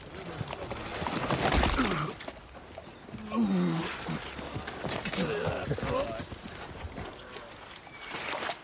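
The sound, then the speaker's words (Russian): A horse and rider fall: clattering hooves and a heavy, scuffling thud near the start, followed by snorting, strained grunts and agitated voices. “Он сейчас упадет. Он падает с лошади, помогите ему!”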